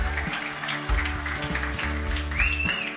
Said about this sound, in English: Can you give them a massive round of applause?